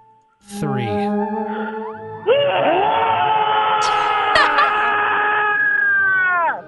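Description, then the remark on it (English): Two people let out loud, horror-movie screams, starting with short rising shrieks, then holding long, high, overlapping wails for several seconds before cutting off together. “On the count of three, I want you both to scream.”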